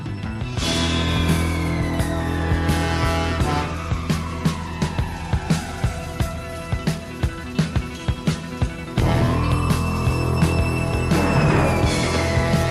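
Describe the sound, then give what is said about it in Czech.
Sweeping synth tones imitating police sirens glide down in pitch, then rise again, over a dense 1980s synth-pop police-disco track with a steady, punchy beat, from an Eddie Murphy buddy-cop action comedy. No voices. “Krásně, jak tam zní ty houkačky v tom podkresu.”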